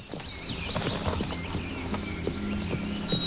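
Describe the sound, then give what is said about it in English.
A buckskin horse trots in circles at a steady pace in an enclosure around a man who gently taps the ground behind it with a long switch, its hoofbeats thudding in an even rhythm on soft ground, with faint outdoor ambience and no talking. “He gently taps the ground behind it with a long switch to make it trot round him.”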